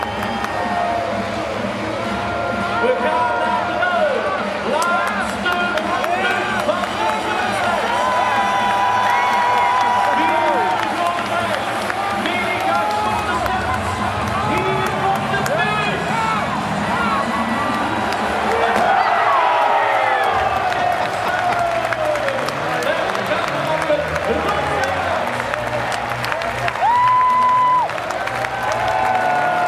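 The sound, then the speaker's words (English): A large crowd at a track cycling race roars and cheers steadily for half a minute with three laps to go, sensing a home win, a dense wall of voices with applause, whistles and shouts, swelling louder near the end. “The crowd are really getting into it as well.”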